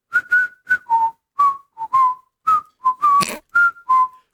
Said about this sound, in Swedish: Men nu är han inte i studion, så nu var det dansken som visslade. Blir en låt bättre eller sämre av vissling?